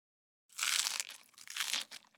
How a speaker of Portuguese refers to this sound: Não estás a fazer sentido, diz o Gil a mastigar uma bolota.